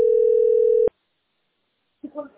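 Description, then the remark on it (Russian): A steady, loud telephone connection tone hums at a single mid pitch for under a second, then cuts off abruptly into silence before a person briefly starts talking. “Платишь, у тебя сейчас соединение идет.”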